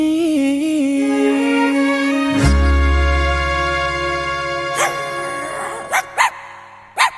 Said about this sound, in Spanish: Oye, en la mañana igual se me metió este perro aquí. Oye, saquen este perro de aquí. Se me mete aquí.